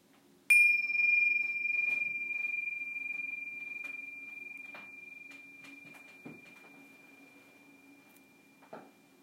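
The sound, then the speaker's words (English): A single meditation bell is struck once and rings out with a clear, bright tone that fades slowly over several seconds, with a faint low hum and a few soft rustles. “next ringing of the bells, we're going to shift our focus from simply the breath to breath and body as a whole.”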